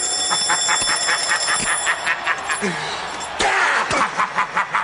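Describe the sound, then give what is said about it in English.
An alarm clock rings in a fast, rapid pulsing rhythm with a bright metallic edge, fairly loud, before cutting off into a clatter of other noises and voices. “The alarm clock rings.”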